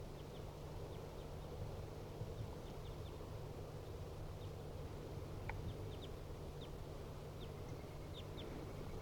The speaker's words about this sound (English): Two birds. Now they are sitting in the tree directly above the cage. Two wild birds calling.